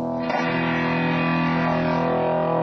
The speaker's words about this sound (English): Distortion pedal, which overloads the signal. Overdrive the sound and make it sound pretty rude.